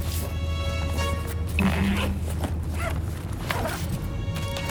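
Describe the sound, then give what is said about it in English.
A backpack zipper is pulled open, followed by soft rustling and shuffling as the bag's contents are checked, with a steady low hum underneath and no voices. “I better double check my backpack.”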